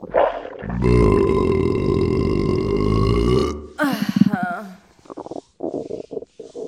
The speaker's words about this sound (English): You have no idea how good that burp felt.